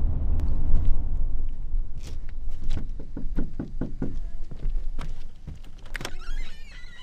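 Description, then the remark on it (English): A school liaison knocks firmly on the front door of a student's home on a reservation, several quick raps in short bursts with pauses between, heard over a steady low outdoor rumble of traffic. No one speaks. “Nobody answers the door at the first two.”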